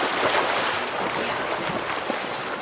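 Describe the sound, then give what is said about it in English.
Continuous churning splashes of swimmers moving through pool water, a steady, fairly loud watery wash with no voices over it; a swim club's first night of practice of the season at a pool in Pinole on a May evening. “On a May evening, the Pinole Seals Swim Club is hitting the water for their first night of practice in the season that almost wasn't.”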